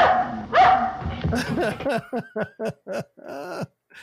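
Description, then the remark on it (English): A dog barks in a quick series of sharp, loud yaps, each bark short and evenly spaced, after a brief muddled stretch with a whistle-like tone at the start; in a film scene, the dog leaps out of a house on Harpo's stomach and barks at Groucho. “And Groucho leans in and in the weirdest visual effect of all time, a dog leaps out of the house in Harpo's stomach and barks at Groucho.”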